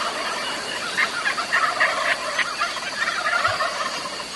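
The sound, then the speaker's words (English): Several wild turkeys waking up on the roost and pitching down call outdoors during a hunt, with rolling gobbles mixed with scratchy, higher-pitched hen yelps in a steady, overlapping chorus against faint background noise. “Hear the hens? They're a little scratchier, a little higher pitched than our eastern hens, and I tuned my calls that way for this hunt, and it worked on them.”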